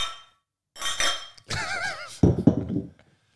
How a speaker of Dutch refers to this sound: Hebben we al geproost eigenlijk? Proost.